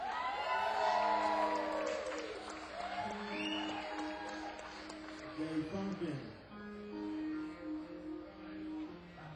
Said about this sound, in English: What's up, St. John? Give a big round of applause for …?